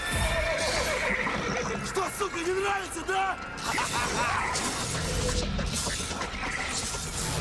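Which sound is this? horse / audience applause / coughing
horse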